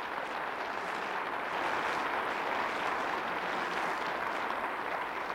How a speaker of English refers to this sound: Give the Lord a clap offering, will you please?